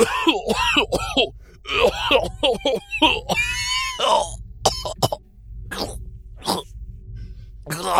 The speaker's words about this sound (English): Wait, what? That was it? That was just a coughing fit.